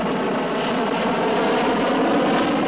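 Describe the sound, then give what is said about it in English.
A jet aircraft flying at 30,000 feet roars steadily, a dense, unbroken engine rush that holds at the same fairly loud level throughout, with no voices or other sounds. “Well, the safest place would be in a jet at 30,000 feet.”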